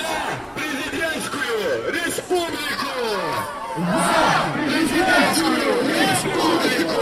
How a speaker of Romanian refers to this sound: Pe lângă lozinci dedicate zilei muncii, participanții la marș erau mobilizați să scandeze în favoarea Republicii Prezidențiale.